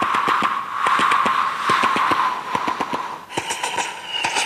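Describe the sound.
A voice imitates an old-fashioned steam train, puffing out rapid, rhythmic chuffs in a steady rolling beat, loud and continuous, with a hissing edge that brightens toward the end.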